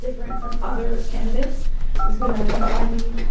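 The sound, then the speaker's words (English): Bursts of short electronic telephone keypad tones beep in quick succession, two rapid runs of dialing as Bernie Sanders campaign volunteers phone bank at the University of Iowa Student Union, over a steady murmur of people talking. “As the sun goes down over a snow-covered campus, volunteers for the Bernie Sanders campaign dial away in a phone banking session at the University of Iowa Student Union.”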